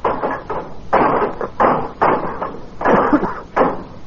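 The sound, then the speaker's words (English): Locked brass doors in the base of a monument being forced with levers: a run of about seven loud, rattling thumps and scrapes in an uneven rhythm, each burst harsh and full-bodied, with no voices. “Break down the door. Well, how? How can we? Here, we'll use the levers.”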